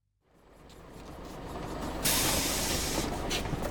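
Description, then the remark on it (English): A bus that goes to Museum Street rumbles as it rolls in, then a sudden loud burst of air brake hiss as it halts at a stop, continuing with a steady idle and hissing air. “Does this bus go to the museum?”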